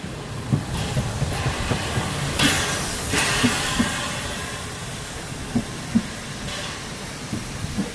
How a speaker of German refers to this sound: Genau, es ist das Pfeifen vom rasenden Roland, das von der Bahnstrecke bis hin zum Strand hallt.